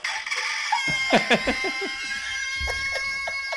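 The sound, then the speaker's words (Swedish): A nervous rooster gives a rapid burst of harsh, agitated squawks and clucks as warning signals, repeated in a jittery rhythm, with a second flurry of calls near the end. “Det här är ju ingen idyllisk morgontupp. Det här är ju en nervös tupp ju.”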